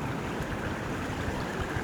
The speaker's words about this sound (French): Un petit ruisseau